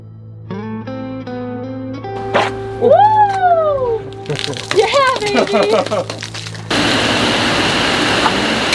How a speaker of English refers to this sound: It's a final shower. Our final cold shower.